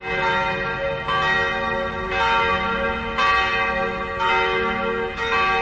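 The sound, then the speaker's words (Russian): Church bells of a brick church's tower clock in Prague's Vinohrady district, Czech Republic, peal loudly and steadily to announce noon, with fresh strikes roughly once a second layered over a rich, lingering ring; no voices are heard. “Костел оповещает о наступлении полудня, а колокольный звон разносится по всему Пражскому району Винограды.”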